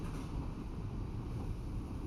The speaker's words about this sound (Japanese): そしてこの列車の音もその例に当てはまります。